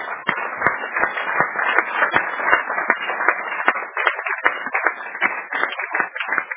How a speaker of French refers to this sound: Maintenant, applaudissez pour vous.